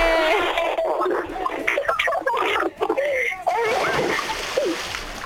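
A person jumps from a platform about 17 metres high and plunges into water with a loud splash, followed by churning and sloshing water while excited voices shout and chatter around it.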